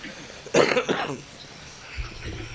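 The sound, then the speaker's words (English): Two quick coughs burst out back to back, followed by quiet room noise and a faint low rumble. “It's not intentional. I have cough.”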